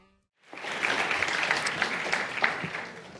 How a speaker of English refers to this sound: So would you give a big round of applause